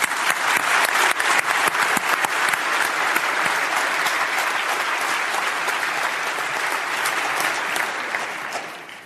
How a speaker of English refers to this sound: And a round of applause.